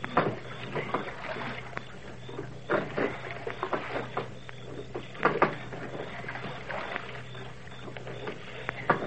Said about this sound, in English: Now they've taken a boat and gone for a row on Lake Candlewood. Listen.